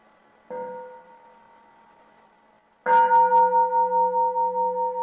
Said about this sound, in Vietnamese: Như các bác, các anh chị thấy trong bài nói chuyện, thỉnh thoảng mình có nghe một cái tiếng chuông. Thì cái tiếng chuông nó chỉ nhắc nhở là mình dừng lại và mình trở lại cái hơi thở của mình.